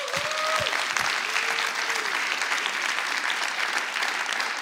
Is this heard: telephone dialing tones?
no